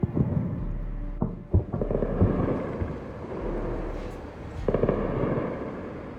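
Several booming explosions in the city of Tehran, Iran, during US and Israeli attacks, with columns of smoke rising, go off at uneven intervals, sharp low thuds over a constant rumble of wind and noise, with no talking in between.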